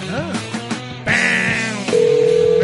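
A telephone dial tone comes in loud and steady near the end, a single unbroken pitch, right after a stretch of warbling, buzzy electronic tones.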